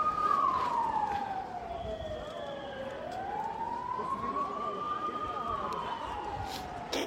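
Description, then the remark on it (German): Ambulance sirens wail in long, slow rising and falling sweeps, loud over a noisy outdoor crowd at a peaceful demonstration with police lines, with voices murmuring underneath. “Man sieht jetzt man hört jetzt die Rettungswagen, die natürlich jetzt hier, werden wieder Menschen unter die Räder gekommen sein bei der Nummer hier.”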